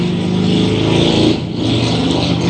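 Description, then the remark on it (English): A loud motorcycle engine roars and revs continuously near downtown Boston, its pitch rising and shifting, with a brief dip in the middle before it surges again. No one speaks. “Wow, who's on the motorcycle?”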